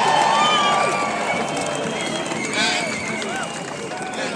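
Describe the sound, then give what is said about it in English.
A large audience applauds loudly and steadily for hospital staff, with scattered whoops and whistles rising above dense clapping for several seconds. “Would you please, on my behalf, their behalf, give them a massive round of applause.”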